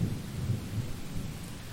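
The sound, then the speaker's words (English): Steady rain hisses across the whole clip during a thunderstorm while a deep, rolling rumble of thunder swells underneath, fairly loud, with no voices present. “You know that I always want to fuck when there's a thunderstorm.”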